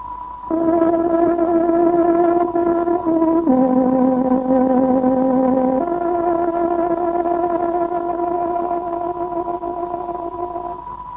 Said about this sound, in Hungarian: Kedves hallgatóink, pontos időjelzést adunk. Zárogatónk 7 órát jelez.